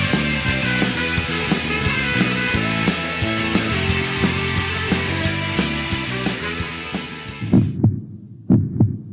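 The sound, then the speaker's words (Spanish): Dense music plays, then cuts off and gives way to a few deep, loud heartbeat thumps in double pulses, standing alone at the end, in the Latido Americano radio jingle. “Latido Americano, latiendo al ritmo de América Latina.”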